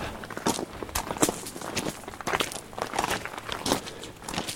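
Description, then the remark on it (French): Footsteps of a person walking with a heavy backpack at a steady pace, each step a crisp, crunchy scuff, roughly two per second and of moderate loudness, with no voices over them. “Je marche pour fuir, pour vivre.”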